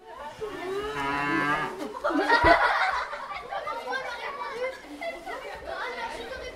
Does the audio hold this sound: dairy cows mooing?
yes